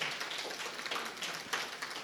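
A crowd applauds steadily, many hands clapping into a dense, crackling wash of sound with a few sharper claps standing out. It holds at a fairly even, moderate level throughout, with no talking.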